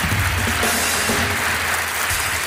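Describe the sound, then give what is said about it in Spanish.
A crowd applauds steadily, a dense wash of clapping that stays loud and even throughout, with a faint murmur of voices underneath. “Un fuerte aplauso para fuerte, ella.”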